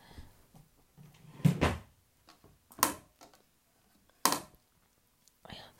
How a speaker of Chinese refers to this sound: 我去买验孕棒，我也不好意思去买啊。哦，对了，我去姐姐抽屉里翻一下，看看有没有。